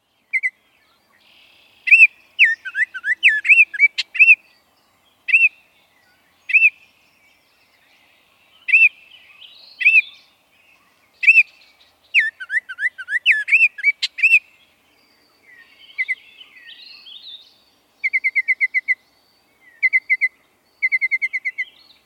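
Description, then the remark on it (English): A Baltimore Oriole sings clear, flutelike whistled phrases in short bursts separated by brief pauses, ending with quick, rapid chattering notes. The song is distinct, with no voices. “Here's that Baltimore Oriole song again.”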